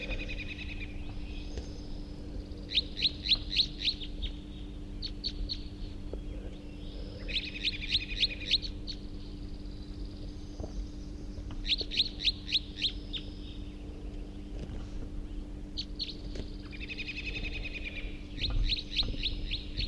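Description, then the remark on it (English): Wild crossbills, thought to be type 3, chitter in flight in quick, high-pitched bursts of rapid repeated notes, arriving in clusters every few seconds over a steady low hum, with no one speaking. “They were just chittering in flight.”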